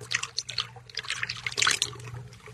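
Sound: liquid being poured out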